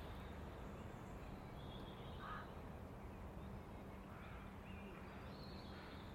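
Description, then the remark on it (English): Rooks caw faintly in a few scattered, hoarse calls from a rookery in the morning, the birds moving about in little groups and splitting up, over a steady low rumble of background noise, with no voices present. “Birds are all about, and the rookery is beginning to perform their morning adventures in little groups, splitting up.”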